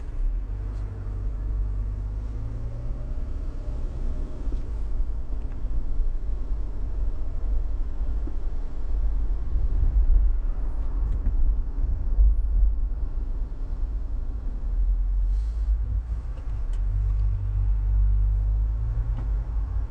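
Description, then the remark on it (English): A steady, deep engine-and-road rumble fills the inside of a moving car, with a constant low hum and faint hiss throughout, no voices, rising slightly in the middle. “That's especially while I'm still driving the car.”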